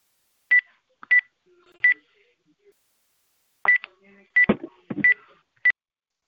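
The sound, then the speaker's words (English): Telephone keypad tones: seven short, clear DTMF beeps pressed at an uneven pace, three then a pause then four, with faint muffled shuffling and murmur between the later presses. “Please mute your phones by pressing star 6.”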